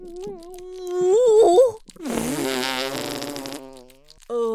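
A loud, drawn-out fart, starting as a wavering tonal squeak and breaking into a longer, raspier sputter, followed by a short final burst.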